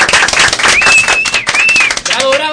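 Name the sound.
applause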